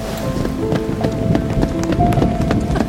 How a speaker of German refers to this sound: Los, rennen wir zurück zum Auto.